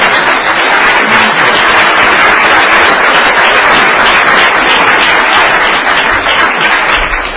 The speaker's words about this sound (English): There's no question in my mind we could not receive this AAA bond rating without all of us working together. So please give all of them a big round of applause.